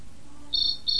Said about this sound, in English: What's that noise, Adam? It's a cricket.